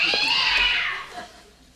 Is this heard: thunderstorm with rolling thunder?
no